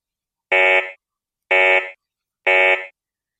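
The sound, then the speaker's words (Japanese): Three loud, identical blasts of a harsh electronic alarm shriek, each lasting about half a second with short silent gaps between them, piercing with no other sounds; a mother's scream likened to an alarm warning of danger. “まるで危険を知らせる警報音だ。”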